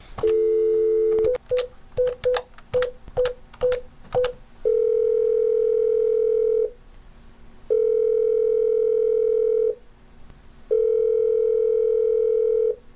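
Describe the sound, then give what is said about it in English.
A steady telephone dial tone opens, followed by a quick series of keypad beeps, then long, evenly spaced ringing tones, clear with no voices. “And let's go to the phones.”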